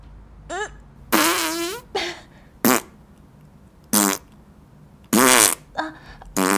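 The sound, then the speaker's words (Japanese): A series of about eight loud farts in irregular succession, some short squeaky pops and others longer, buzzing and rising in pitch, with brief quiet gaps between them. “また屁が出るよ。”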